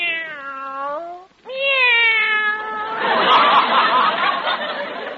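cats meowing

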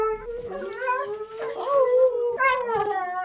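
dogs howling

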